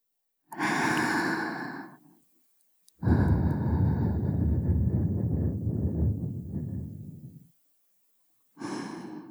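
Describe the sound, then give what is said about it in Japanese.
Three soft, breathy puffs of air blown into the ear by a high school girl, the middle one long and sustained, separated by brief silences, with no talking. “女の子にお耳ふうふうされるの気持ちいいでしょ。”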